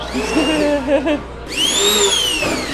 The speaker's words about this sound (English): This is 60 pounds of nectarine. And then over here is about 65 pounds of peaches as well. And we're ready to blend up using this giant immersion blender. Give it a little.